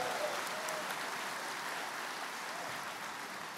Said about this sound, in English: Yeah, you can applaud if you like.